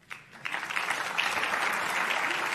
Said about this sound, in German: Einen großen Applaus.